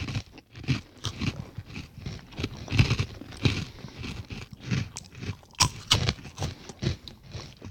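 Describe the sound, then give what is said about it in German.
Loud, crisp crunching as someone chews sweet-spicy snack chips taken from a bag, with a steady run of sharp, crackly bites and mouth noises filling several seconds. No one speaks. “Und die sind, wenn du sie aus der Tüte rausholst, absolut VR-tauglich. Also das super. Muss man jetzt mal klar sagen. Ja, super knusprig, toll.”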